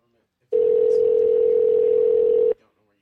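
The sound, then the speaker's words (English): A single steady electronic ringback tone from an outgoing phone call to someone's parents on a Sunday morning sounds for about two seconds, loud and clear on the receiver, then cuts off into near silence. “Now that the phone's ringing, I'm like, what can I say to my parents?”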